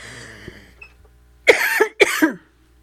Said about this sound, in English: And yes, if you've been listening to me for 2 years, you've been hearing me cough for 2 years. And I'm still coughing. Maybe not as bad